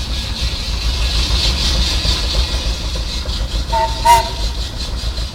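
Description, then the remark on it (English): A 17 horsepower jumbo steam engine, the second to last one built, runs steadily, a continuous low rumble with hissing, broken near the end by a brief metallic squeal and clank. “This is a 17 horse jumbo steam engine.”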